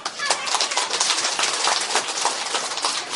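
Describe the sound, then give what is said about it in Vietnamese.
An audience at a Buddhist teaching session claps steadily for about three seconds, a dense, crackling wash of many hands with no voices over it and an even loudness throughout. “Cho tràng pháo tay.”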